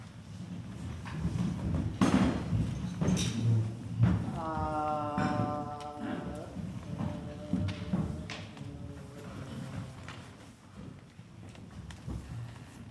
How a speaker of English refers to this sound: Could I have the first row? No, the second row. This is going to be very noisy. Could you do with your legs to push your chair back a little?